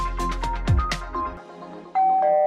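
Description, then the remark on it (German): A doorbell at the front door of a home chimes with a clear two-note ding-dong, the second tone lower, following a brief burst of percussive, jingle-like hits. No one speaks. “Es klingelt immer morgens an der Haustür.”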